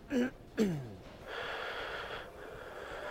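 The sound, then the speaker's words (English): A voice imitates heavy, raspy breathing like Darth Vader: two short voiced gasping intakes, then a long, steady, hissing rasp of breath, fairly quiet. “breathing like fucking Darth Vader.”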